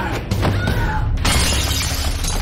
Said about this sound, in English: They struggle and she falls back into a glass table.